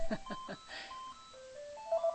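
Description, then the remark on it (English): A phone rings with an electronic ringtone melody of clear, sustained tones that step up and down in pitch at a moderate, steady volume, with a few quick pulsing notes at the start. “Here I have a cup, a pen, a microphone, a desk, a book, a magnifying glass, scissors, a phone ringing.”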